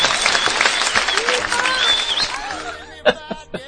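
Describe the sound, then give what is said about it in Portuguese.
A crowd claps for the ninth-place finisher of a ranking in a dense, steady burst of applause with some chuckling mixed in, then it thins out into a few scattered, louder claps at the end. “Sai de palmas.”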